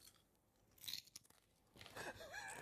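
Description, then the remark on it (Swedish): Crunchy potato chips being eaten: quiet, crackly bites and chewing, with a short rustle of the bag early on and denser crunching toward the end. No one speaks. “Okej, alltså, hörs det om jag äter chips?”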